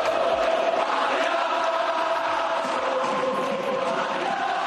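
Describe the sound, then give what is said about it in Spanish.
Sevilla fans in the stands of the Ramón Sánchez Pizjuán stadium chant "Payaso, payaso" in unison as Joaquín comes out to warm up, a loud, steady roar of massed voices with a sustained tonal ring, unbroken for the whole stretch. “Además, esto sonaba en el Ramón Sánchez Pizjuán cuando Joaquín salía a calentar.”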